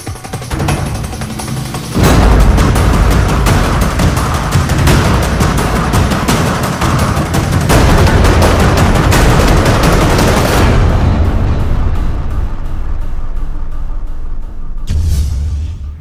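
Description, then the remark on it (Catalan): Loud, dense bursts of gunfire and booming blasts fill the track without pause, rattling like heavy combat, then cut off abruptly before a final short roar near the end. “el que m'agrada més és l'explosió, que s'acabi tot.”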